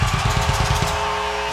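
A loud, dense roar of a concert crowd in Texas cheering fills the whole clip, with a rapid rhythmic low thumping in the first half that fades into a steady wash of noise.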